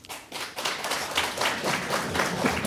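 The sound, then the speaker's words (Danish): A live audience at a book fair claps together, those who feel familiar with the romantasy genre answering a request, a steady burst of many overlapping hand claps at moderate volume for a few seconds without any voices over it. “så vil jeg gerne høre her blandt publikum, altså, må jeg få en klapsalve fra de af jer, som føler jer fortrolige med romantasy-genren?”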